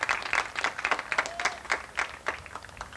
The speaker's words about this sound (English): Let's hear a big round of applause for Toby Hilliard.